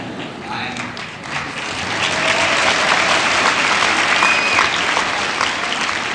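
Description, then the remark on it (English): An audience at an assembly claps steadily to greet a speaker, a dense wash of many hands that swells slightly louder after the first couple of seconds and holds at a strong, even level throughout. “May I first of all thank you for inviting me, secondly, for the applause that has awakened me.”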